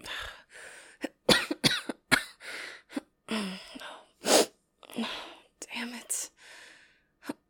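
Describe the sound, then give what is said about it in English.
A string of irregular coughs, sharp bursts and breathy hacking mixed with soft whispered breaths and throat noises, fairly quiet overall with short pauses between fits. “Did my coughing wake you?”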